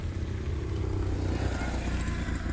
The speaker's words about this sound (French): Un extérieur jour sur vos terres, presque, on pourrait dire, en Creuse. Il n'y a pas grand monde. Les voitures passent. Une circulation d'enfer. Les motos.